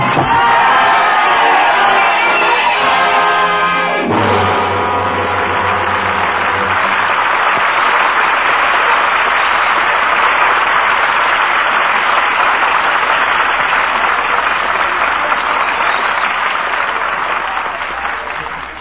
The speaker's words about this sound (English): We lower our curtain on the roaring crowds of Paris